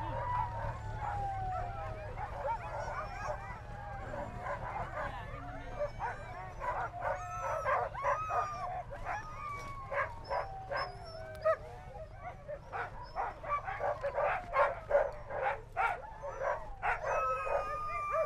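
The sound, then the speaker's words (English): A large pack of sled dogs barks, yips and howls excitedly all at once at the start of a sled dog race in Grand Portage, Minnesota, a dense chaotic chorus with sharp overlapping barks, over a low snow machine engine hum outdoors as the dogs are led to the starting line. “Working with the snow machine to lead the dogs to the starting line.”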